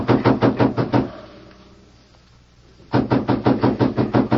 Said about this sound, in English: A moment later, footsteps sounded across the veranda, and someone knocked sharply on the door.